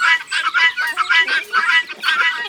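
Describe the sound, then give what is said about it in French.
Harsh, rapid cackling calls from several guinea fowl in a farmyard, repeating in a continuous grating chatter, loud with no pauses across the whole stretch. “Les pintades.”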